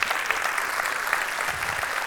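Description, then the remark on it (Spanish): A steady wash of audience applause given to God during a sermon, many hands clapping at once in a dense, even patter that holds at moderate loudness for about two seconds with no voices over it. “un aplauso a Dios, que él se lo merece.”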